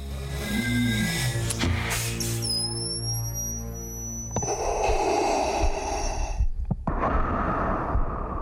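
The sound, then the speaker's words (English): Darth Vader's mechanical respirator breathing through his helmet mask as it is lowered onto his burned head and the final piece is assembled: slow, loud hissing inhales and exhales, set against high electronic whines and a low droning rumble, with no talking. “It's a culmination of these entire three films when you see the mask lowered onto his burned head and the breathing start.”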